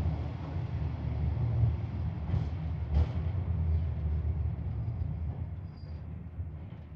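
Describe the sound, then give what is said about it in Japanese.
Steady, heavy low rumble of a train carriage in motion between Nakano and Miyamae stations, with a couple of brief rattling clicks midway and a faint high whine near the end; no voices. “中野です。折り口は右側です。扉近くのお客様はご注意ください。”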